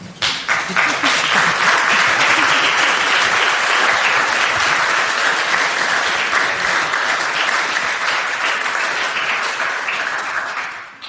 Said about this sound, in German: Man darf auch einfach klatschen, darüber freuen wir uns noch viel mehr.